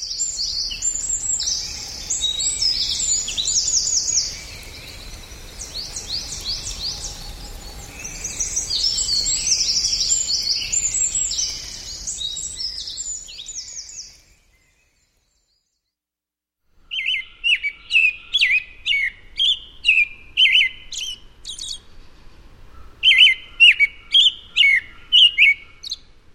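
An American robin sings in May in West Virginia: bright, high warbling phrases, at first in a dense continuous stream, then after a short pause in a run of clipped, evenly spaced bursts. No one speaks.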